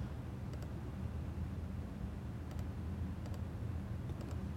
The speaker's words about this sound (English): 2 × 2, hit add, and then I'm going to end up in Visual Studio. And then I can basically step through just as I would do. Hit this keyboard.